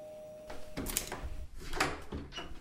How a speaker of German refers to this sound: Plötzlich klingelte es an der Tür. Opa Fritz machte auf.